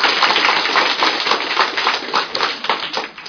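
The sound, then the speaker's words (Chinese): A steady burst of applause from a crowd, given for a volunteer of the Taiwan Dadi Cultural and Educational Foundation: dense rapid clapping that stays loud and even throughout the few seconds with no voices standing out. “互人掌声。”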